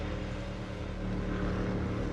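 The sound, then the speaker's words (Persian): A steady, droning boat engine hums continuously, its low rumble even and unbroken throughout, with no voices over it. “اونجا یه قایق میبینم.”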